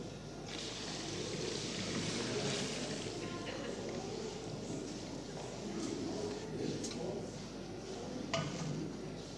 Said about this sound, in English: So, I'm going to put some water in.